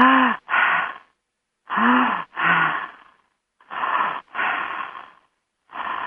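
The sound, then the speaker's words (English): Loud breathing through an open mouth as a breathing exercise: deep breaths drawn in and pushed out in pairs, repeating in a steady rhythm about three times with short pauses between, no talking. “Start breathing. Everybody can do that for a while. Shall we use Judith's breath? Open your mouth.”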